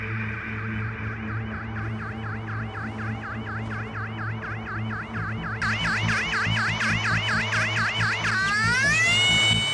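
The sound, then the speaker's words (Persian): Rapid wailing sirens of two cars arriving at a house cycle steadily over a low engine rumble, with the second siren joining partway through so the two overlap loudly before sliding into a rising tone at the end. “همین الان دوتا ماشین آژیرکشون اومدن ریختن تو خونه.”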